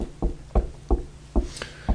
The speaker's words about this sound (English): Because here I am standing outside the door and I'm knocking.